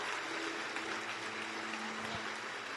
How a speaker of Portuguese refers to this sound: E vamos aplaudir mais o Senhor Jesus por cada vida que está chegando.